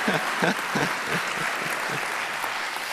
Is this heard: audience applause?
yes